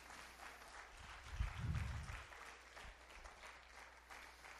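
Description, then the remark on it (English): An audience claps their hands together as a morning hand clap of praise to the Lord, in a sustained burst of dense, overlapping applause, with a few louder low thumps, swelling briefly and then tapering off. “Can we just give the Lord a hand clap of praise this morning?”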